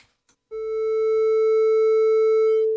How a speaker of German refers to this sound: Hat er wohl als Witz gemeint, aber jetzt spielen wir trotzdem mal einen Testton zu seinen Ehren.